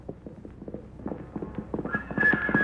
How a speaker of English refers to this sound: Suddenly, he hears the sound of galloping hoofs.